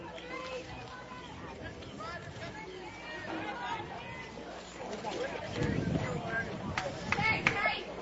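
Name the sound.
baseball stadium crowd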